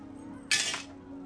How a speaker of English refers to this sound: Tossing his keys on the table, he notices a pile of mail.